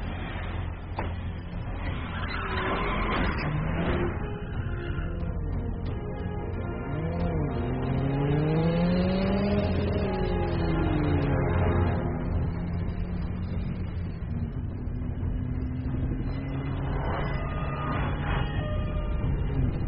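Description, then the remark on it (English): A small car engine revs and drives past, its whine climbing and falling in pitch over a steady, loud rumble, with no talking. “Was the little car your idea?”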